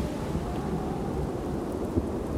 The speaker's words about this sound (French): La nuit est dure et l'orage ne se calme pas. Il y a tellement de bruit que nous ne pouvons pas parler.